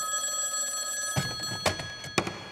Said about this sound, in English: The phone rang.